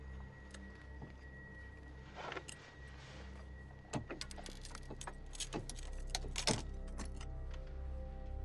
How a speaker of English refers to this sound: He slowly puts both hands out of the window and picks at a piece of the broken glass in the mirror.